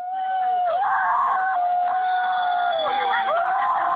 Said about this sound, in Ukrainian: Свист і крик антинатовців не вщухає по кілька хвилин.